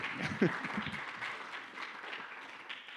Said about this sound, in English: That's all right. That's not necessary. They're clapping because I'm finished.